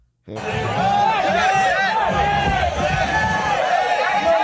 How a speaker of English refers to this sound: the New Yorkers who booed and criticized and yelled at Ted Cruz to get the fuck out of their stadium